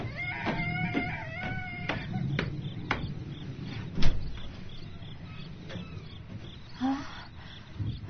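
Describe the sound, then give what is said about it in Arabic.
A house door creaks open with a wavering hinge squeal, followed by several sharp wooden clunks and thuds over a low, rumbling background. “اسكتوا، أنا ذاهبة لفتح الباب، أنا ذاهبة.”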